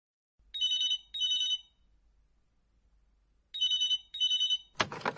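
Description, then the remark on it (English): A telephone rings in two double-trill bursts with a pause between them, fairly clear, followed by a brief clatter as the receiver is picked up. “Oh, I'm ringing about the flat share.”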